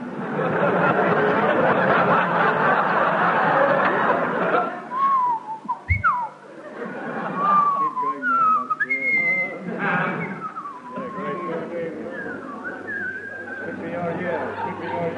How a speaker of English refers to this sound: I will now whistle the soliloquy from Hamlet.